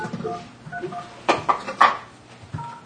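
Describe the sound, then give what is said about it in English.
A few short electronic beeps from a telephone keypad, pressed at an uneven pace over faint background voices and soft room noise. “All right, well, I'm going to make a phone call.”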